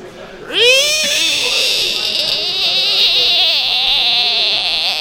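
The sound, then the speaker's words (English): A screaming frog lets out a sudden, loud, high-pitched shriek that rises in pitch and then holds as one long, wavering scream for several seconds, unbroken. “It's a screaming frog.”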